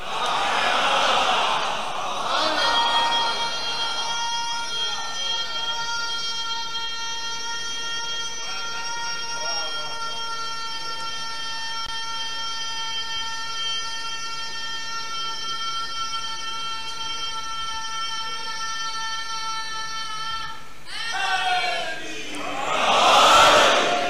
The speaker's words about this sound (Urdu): میں پریشان ہوتا ہوں, یہ نعرے کی آواز آ کہاں سے رہی ہے؟